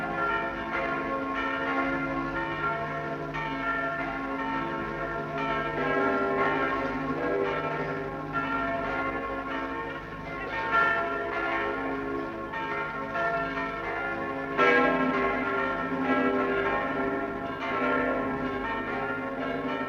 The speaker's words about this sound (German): Die Glockentöne der wiedererrichteten Paulskirche in Frankfurt steigen hoch und hell in den Himmel.